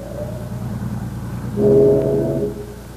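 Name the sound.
steamship whistle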